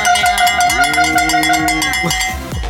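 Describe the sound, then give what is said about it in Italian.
Cow bells worn by cows clank and ring continuously in a loud, overlapping jangle, with many bright metallic tones clattering irregularly over a low rumbling background. “Sono le mucche.”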